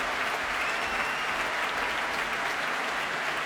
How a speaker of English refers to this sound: And time for Juan Colmena to give the orchestra its due. And that huge cheer is for the flautist Richard Davis.